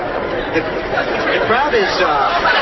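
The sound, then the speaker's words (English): Many voices chatter and overlap in a steady, busy babble, with occasional brighter laughs rising above the constant murmur of a crowd gathered outdoors for a Thanksgiving Day turkey event, moving out into a parking area. “The crowd is moving out into the parking area.”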